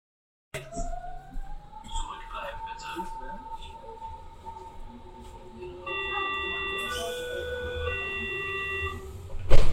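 A Berlin S-Bahn door closing sound: steady electronic tones over rumbling train noise, then a brighter multi-pitched beeping warning signal for several seconds, ending in a sharp thud.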